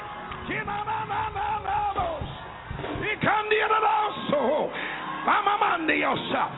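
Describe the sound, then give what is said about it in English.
A crowd of voices shouts and cries out together in a loud, sustained burst, with several rising yells and whoops overlapping, as people in the audience shout and scream. “Somebody just shouted and something got loose. Somebody just screamed and something got broken.”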